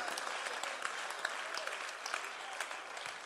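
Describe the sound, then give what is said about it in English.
A church audience applauds itself steadily, many hands clapping in a dense, continuous patter with a few sharper claps standing out, sustained at an even, moderate loudness with no voices on top. “Ah, clap for yourself.”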